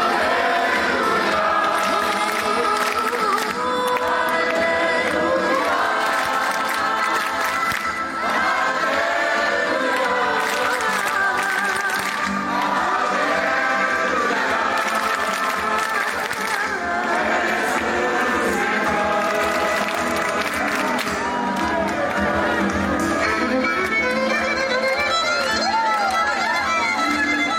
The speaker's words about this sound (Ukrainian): Отже, ми могли почути цей дух радості, дух Великодня, де оплески перериваються криком також і Христос воскрес.